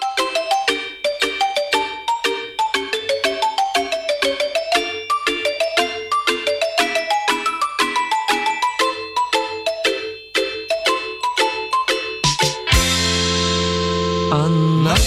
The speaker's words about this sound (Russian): А через небольшую музыкальную паузу мы продолжим программу WhatsApp страна.